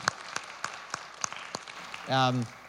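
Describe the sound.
A thin, scattered round of applause: a handful of separate claps at a steady, unhurried pace, fairly quiet and distant, ending as a voice briefly speaks up.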